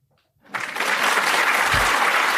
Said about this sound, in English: Hit the applause button.